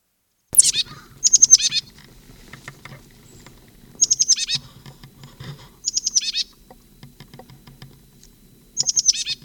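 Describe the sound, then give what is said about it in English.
A bird foraging in a live oak at the upper end of Moline Gully gives bursts of high, rapid chattering notes, about five separate phrases spaced a second or two apart, loud and clear over a quiet background with no talking; the call answers a similar one from down the gully. “32, upper end of Moline Gully, birds foraging in live oak.”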